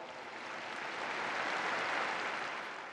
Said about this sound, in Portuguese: Salutiamo con un applauso da qui.